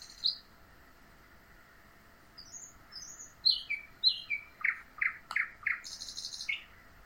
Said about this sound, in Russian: На ветке твоего сердца сидит птичка и поет песню, слышишь?